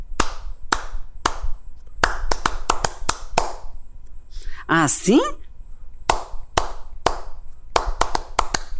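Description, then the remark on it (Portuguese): Rhythmic hand clapping in a catira pattern, demonstrated for others to repeat: sharp claps in quick groups with short pauses between, continuing throughout. A voice briefly speaks midway. “Vocês vão repetir com as palmas das mãos assim, ó.”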